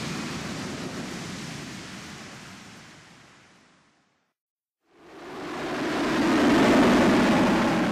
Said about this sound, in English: A plane is big and heavy, yet it climbs up really high. It zooms along the runway and soars into the sky.